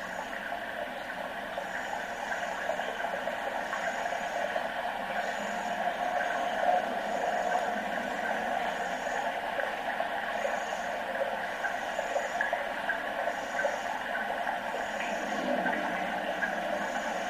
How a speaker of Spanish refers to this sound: Dentro del proyecto, también grabamos algunos animales en peligro de extinción, como esta rana que escuchan al fondo, que en otros tiempos era muy común en Galicia.